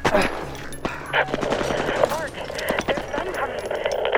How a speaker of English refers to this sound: We heard gunshots and shouts.